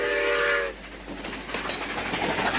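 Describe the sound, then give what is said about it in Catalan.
A moving train rattles along steadily with a dense, noisy clatter of wheels on track, opening with a brief high whistle that fades out early. No voices. “Ara escoltarem el tren en marxa amb el soroll de les rodes.”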